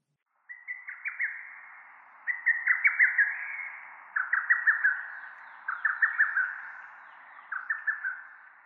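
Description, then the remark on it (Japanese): A bull-headed shrike calls in harsh, rapid chattering bursts, five repeated phrases of sharp notes spaced about every one and a half seconds, clear with no other sounds. “モズです。”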